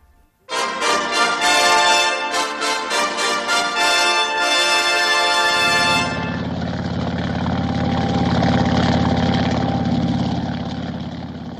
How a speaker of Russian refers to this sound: Как по писанному, мотор как часы, прочее соответственно.